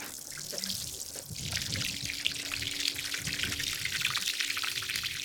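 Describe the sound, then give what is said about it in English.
Steady water running and splashing from a solar-powered well on a ranch, used to water cattle and sometimes for drinking water, a continuous trickling pour with a faint low hum underneath, no talking. “This is our solar well to water our cattle and get drinking water sometimes if we lose power at the ranch.”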